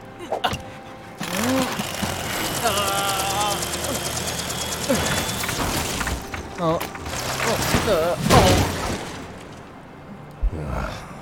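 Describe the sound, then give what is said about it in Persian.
A helicopter engine runs steadily, its rapid mechanical chop and whine holding for several seconds while brief vocal sounds and exclamations break in over it; the helicopter is one the speaker built. “هی بتمن، ببین یه هلیکوپتر ساختم.”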